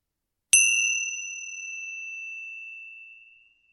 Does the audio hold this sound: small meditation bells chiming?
yes